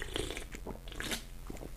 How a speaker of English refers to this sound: I purposely slurped that so that you could hear it. Hopefully you did hear it.